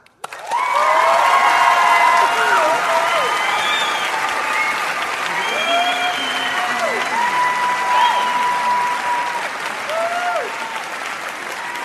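Sustained audience applause fills the room, a dense steady clatter of many hands clapping close and loud, with a few faint cheers and whistles rising over it before it slowly tapers.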